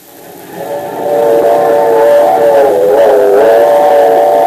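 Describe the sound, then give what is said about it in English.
A railroad's super steamer steam locomotive running on the rails with riders aboard, its rumble swelling over the first second into a loud, steady roar with a sustained whistle-like tone on top; no voices. “When the railroad gave us permission to ride the locomotive of the super steamer, I was delirious with joy.”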